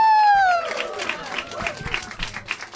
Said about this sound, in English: Please start clapping right now. No, literally. More. Go crazy, go crazy.